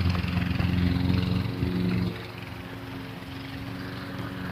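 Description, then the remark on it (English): A steady, droning engine of gutter installation machinery, worked by a gutter installation team across the street, hums with a low, buzzing tone. It runs louder for the first two seconds, then settles into a slightly quieter, continuous rumble with no talking. “Noise is the gutter installation team that's working across the street.”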